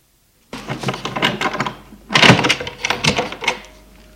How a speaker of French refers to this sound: Une porte s'ouvre.